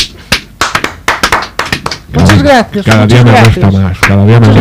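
An audience claps for about two seconds, a loose burst of sharp, uneven claps, before voices start talking loudly over the last scattered claps.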